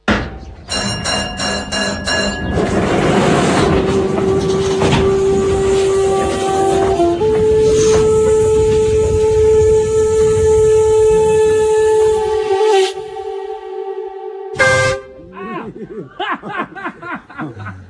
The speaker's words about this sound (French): Un gros klaxon dans la face.